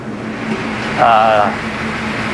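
A car engine idles with a low steady hum, then briefly revs up in a rising, wavering surge before settling as the vehicle pulls away.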